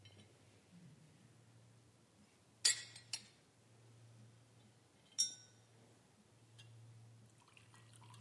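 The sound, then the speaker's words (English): Someone drinks water from a glass: a few sharp glassy clinks and taps, with faint liquid sounds, against a steady low hum and no talking. “And you know exactly when you want to drink some water.”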